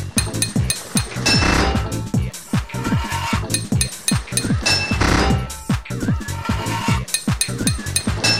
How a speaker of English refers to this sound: Six hits of your hammer to fit a pipe.